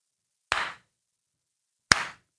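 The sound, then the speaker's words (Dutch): Two sharp hand claps for audio sync, about a second and a half apart, each a crisp slap with a short ringing tail, otherwise silence. “Even klappen.”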